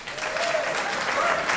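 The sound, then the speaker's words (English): A crowd applauds steadily, dense overlapping claps forming a continuous wash of sound at an even, fairly loud level, with a faint voice or cheer rising briefly underneath. “And by round of applause, who has never heard the podcast before?”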